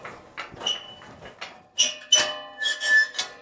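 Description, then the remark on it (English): A field gate into a sheep field swings open with a run of high, metallic hinge squeaks and creaks, several short squeals in uneven succession, fairly clear, with no talking over it. “So we're turning right now through this gate and into the sheep field.”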